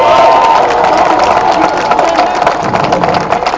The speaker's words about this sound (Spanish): Un aplauso para ellos.